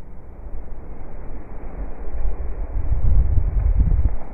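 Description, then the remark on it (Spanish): A sea blowhole (bufadero) on La Graciosa island, formed by sea erosion of the abrupt basalt coast and spouting a great jet of water, rumbles and roars with a steady wash of churning water that swells into heavier, booming surges of spray toward the end. Deep, muffled and loud, with no voices. “Pues si os parece, vamos a escuchar otro de los fenómenos fascinantes de una de estas islas, de La Graciosa, los bufaderos.”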